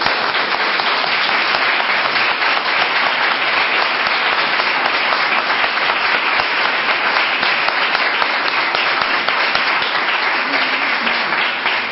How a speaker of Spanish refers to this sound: Yo pido un emotivo y fuerte aplauso.